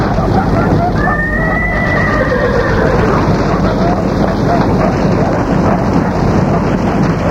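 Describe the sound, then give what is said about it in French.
A horse whinnies once with a long, falling cry over a steady roar of heavy rain or storm noise, with faint hoof clatter and muffled voices in the background, as someone shouts to get the horses out quickly. “Sortez les chevaux, vite!”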